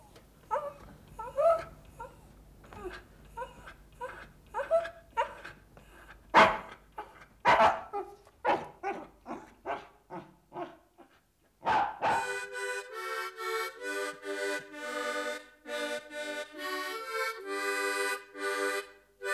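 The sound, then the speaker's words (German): A dog barks repeatedly in short, sharp yaps at an irregular, excited pace, fairly loud, before a steady, sustained tonal sound takes over for the last several seconds. “Hund, komm mit mir in die Küche.”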